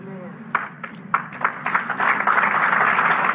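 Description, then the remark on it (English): An audience starts with a few scattered claps that quickly swell into steady, full applause, growing louder over a few seconds with faint crowd voices mixed underneath. “Clap, you Bible bangers, clap.”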